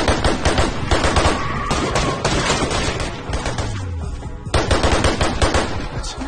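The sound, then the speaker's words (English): A loud, rapid barrage of gunfire, shots cracking in dense overlapping bursts with a brief lull before the firing resumes; no voices are heard. Gabriel is shooting at police officers by a police car. “Gabriel shoots the other officer.”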